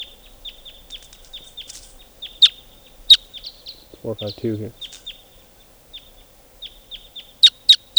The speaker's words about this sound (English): And while the type 2 birds are flying over.